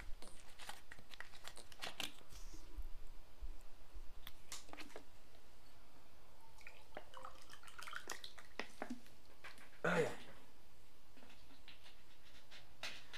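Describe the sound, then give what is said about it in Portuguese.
Water is poured into a glass amid scattered small clicks and taps, followed by one brief, slightly louder burst as a sip of the water is drunk; otherwise quiet, with no talking. “Vou colocar água, porque eu tô com sede.”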